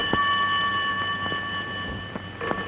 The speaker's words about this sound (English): A phone rings in a loft apartment with no one to answer it.